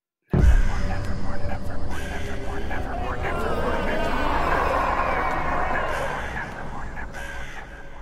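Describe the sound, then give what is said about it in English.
A raven croaks loudly, a steady run of harsh, throaty caws that carries on for several seconds without pause, with no other sounds around it. “I have some questions for this raven.”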